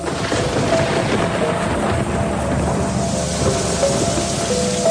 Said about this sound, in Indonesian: Sampailah pada hari itu, Bandung diguyur hujan lumayan deras.